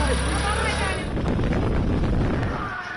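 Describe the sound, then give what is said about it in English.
A motorcycle carrying a passenger speeds along a curfew-bound road toward the village of Aripathal, past empty streets and makeshift barricades, its engine droning steadily with a low rumble mixed with heavy wind buffeting across the whole stretch, loud and continuous. “we negotiate with two young men to take us ahead on their motorcycles”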